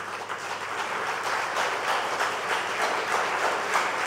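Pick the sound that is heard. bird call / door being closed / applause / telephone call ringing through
applause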